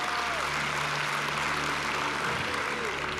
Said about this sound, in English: Come on, let's give her a big, big round of applause.